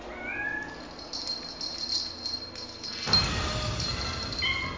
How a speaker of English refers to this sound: What's that, kittens? The cake signal.